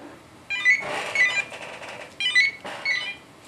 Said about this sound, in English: What the crap was that? Sorry about that. Phone was ringing. Your phone rang.